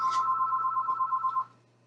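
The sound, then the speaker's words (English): A telephone rings with a rapid electronic trill, one steady burst lasting about a second and a half before cutting off, clear over a faint low hum. “Our phones are ringing, okay.”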